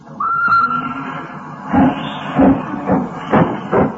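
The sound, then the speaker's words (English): A steam train pulls out of the station at Bradford bound for London in the dark, puffing out smoke and white steam: a brief whistle gives way to heavy, rhythmic chuffs that come roughly every half second over a low rumble, loud, with no one talking. “Hissing and snorting and growling and grumbling. Out of the station, the train comes a-rumbling, puffing out smoke and white steam in the dark”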